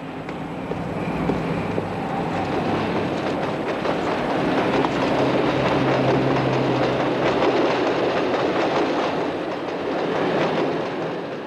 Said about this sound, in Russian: Шагивая под грохочущей над головой 6-й линии надземки с левого берега на правый, по виадуку Пасси